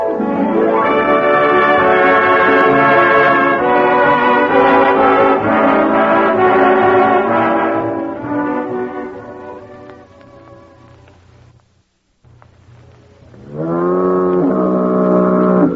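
A deep, loud foghorn blast sounds for about eight seconds before fading into near silence, then a second strong blast starts abruptly and holds to the end. No voices are heard.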